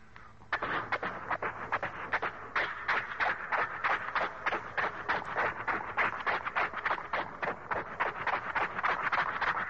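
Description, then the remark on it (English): A ridden horse's hooves trotting in a quick, steady two-beat rhythm, the sharp clopping hits loud, continuing without pause for several seconds with no voices. “Now we bring the horse up to a trot.”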